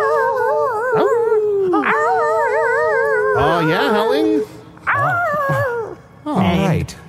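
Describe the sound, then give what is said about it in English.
Several dogs howl together in long, wavering, overlapping tones, rising and falling, with a couple of shorter yipping howls breaking in toward the end. “Oh, look, our parents are howling. They're alive now.”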